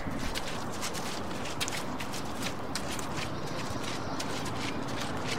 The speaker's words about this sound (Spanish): Y subo por el embarrado sendero que lleva a mi casa.